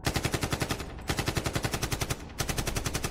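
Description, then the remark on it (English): Automatic weapon gunfire from an assailant who stepped out of an SUV on a street: loud, rapid bursts of sharp cracking shots in quick succession, broken by two brief pauses into three sustained volleys. No voices are heard. “I looked behind me to see one of the assailants exiting the SUV with an automatic weapon. He opened fire.”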